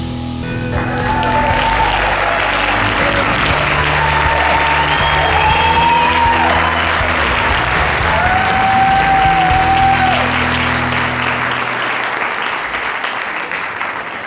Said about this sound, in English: Okay, stop the applause. I hope the applause has stopped. It's a little embarrassing to have a huge crowd of people applauding me when I haven't even said anything